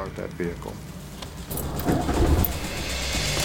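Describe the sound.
A car engine in a parking lot cranks and catches, then runs with a rough, uneven low rumble that sputters irregularly as it misfires. A voice is heard briefly just before the engine starts.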